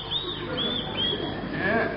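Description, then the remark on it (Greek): A small bird chirps in a quick series of thin, high tweets, fairly steady across two seconds, over a low, murmuring background. “Τ' ακούς κάτι πλημμυρίζει το πουλάκι.”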